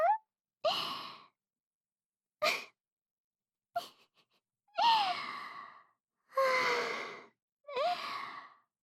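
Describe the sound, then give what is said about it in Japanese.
A voiced yawn broken into several breathy, drawn-out exhalations with sliding pitch, separated by short silences, with no speech around them. “あくび出ちゃいましたね。”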